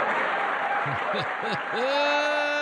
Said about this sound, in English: That was the president. They clapped because he told them to. But do you notice they weren't going to clap?